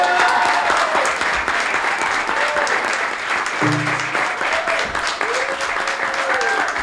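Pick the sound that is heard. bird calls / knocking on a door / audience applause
audience applause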